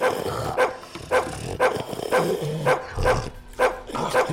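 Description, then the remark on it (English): A slobbery hound dog named Abby barks over and over, roughly eight loud barks in a fairly steady rhythm, with no one talking. “The hound dog.”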